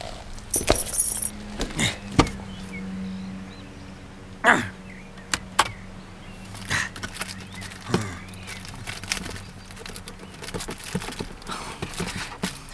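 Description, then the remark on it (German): Keys for a cargo hold jangle and clink in short bursts, with sharp metallic taps scattered over several seconds against a low hum, moderately loud, with no talking. “Gib mir den Schlüssel. Ich will in den Laderaum sehen.”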